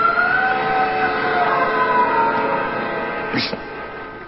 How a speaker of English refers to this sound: Did you hear that, Captain? Yes. Someone screamed. It must be from the beach. No, it isn't from the beach.